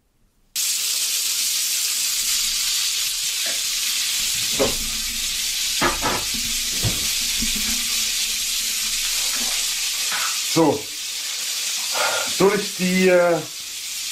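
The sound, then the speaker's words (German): Steady, loud sizzling of vegetables frying in a small pan, a constant hiss running throughout with occasional clinks and stirring; a voice speaks briefly over it near the end. “Warum nimmt man so eine Mini-Pfanne, um Gemüse anzubraten?”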